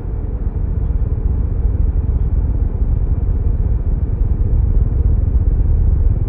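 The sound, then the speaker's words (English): A steady, loud engine rumble fills the space, a deep low-pitched drone of an airplane's engines kicking in as the plane starts moving and taxis, continuous with no voices. “My pulse quickened as the engines kicked in, and we started moving.”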